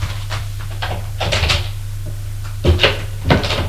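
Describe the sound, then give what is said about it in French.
A wooden wardrobe door creaks and shuts with a couple of soft knocks and a firmer thump near the end as a man hides in the wardrobe, over a steady low hum with no talking. “Va te cacher dans l'armoire. Je vais faire servir le thé. Et il se cache dans l'armoire.”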